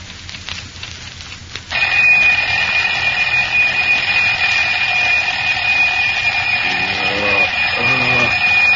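After a quiet moment, an alarm clock's bell bursts into loud, continuous, shrill metallic ringing that carries on without pause to the end, at a modest home in a small Texas town in the early morning.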